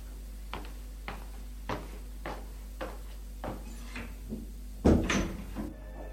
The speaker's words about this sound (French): Elle va leur ouvrir la porte.